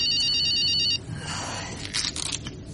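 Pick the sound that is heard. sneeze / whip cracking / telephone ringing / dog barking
telephone ringing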